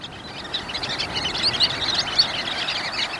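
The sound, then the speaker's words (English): A flock of sanderlings at the beach calls with a busy chatter of thin, high chirps over a steady wash of surf, the birds sounding continuous with no voices present. “Sandpipers, like these sanderlings at the beach, are hunched over, probing industriously, as if drilling for oil.”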